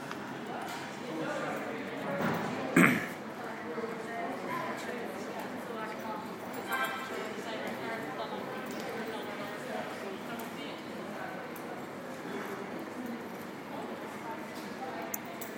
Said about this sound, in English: So here's a bit of atmosphere from the train station for you.